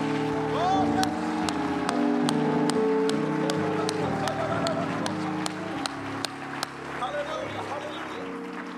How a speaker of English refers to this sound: If you love the Lord tonight, amen, clap your hands as loud as you can unto Jesus.